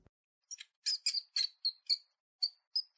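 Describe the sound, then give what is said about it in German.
A run of about nine short, thin, high-pitched squeaks or peeps in an uneven rhythm, some doubled, fairly quiet and alone with no voices, coming from a staircase in the dark. “Das hier klang viel eher nach einem Fieben oder Quieken.”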